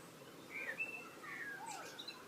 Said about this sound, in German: Singende Amsel.